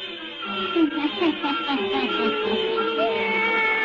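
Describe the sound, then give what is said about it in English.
A black cat named Satan meows, a few drawn-out, wavering cries over a steady background hiss, with no one speaking. “Satan, her wise black cat.”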